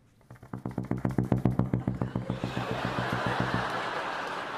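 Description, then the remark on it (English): A bassoon mimics a helicopter with a fast run of tongued low notes, about two dozen buzzy pulses that swell then fade into a breathy hiss. “Yeah, of course, because it's a helicopter. All right. You just basically tongue it.”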